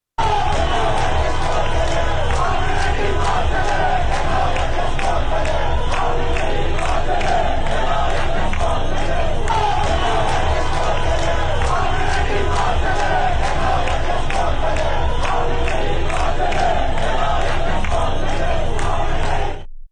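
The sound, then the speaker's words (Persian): A large street protest crowd in Tehran, Iran, chants and shouts together in a steady, rhythmic cadence on a Friday, the seventh consecutive day of protests, loud and sustained throughout, with a thick wash of overlapping voices and no single speaker standing out. “بنابر گزارش ها معترضان در مناطقی از جمله نارمک، تهرانسر، ستارخان، جنت آباد و نیاوران به خیابان ها آمده و در برخی موارد با نیروهای انتظامی درگیر شدند.”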